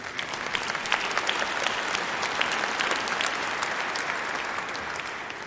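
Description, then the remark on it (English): An audience applauds steadily, a dense wash of many hands clapping at once that holds an even, fairly loud level for several seconds, with no one speaking over it. “Yes, you may clap if you agree.”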